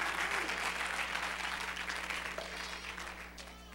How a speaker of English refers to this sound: God's word is true. If you love his word, clap your hands and lift your voice and bless him tonight.